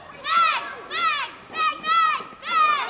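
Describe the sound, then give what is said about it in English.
A group of kids playing Transformers during playtime, their high-pitched voices rising in five quick, excited bursts of shouting and chatter, with a faint background hum between calls. “This is a group of kids playing Transformers.”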